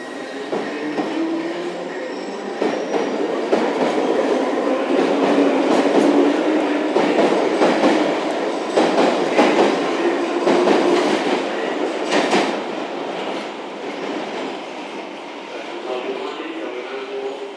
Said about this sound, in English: Travelling now on the cusp of the end of the service. So I think we're probably waiting for the last Richmond train of the night. Slightly ridiculous at, you know, 12:30, it's the service is stopping, but here we go.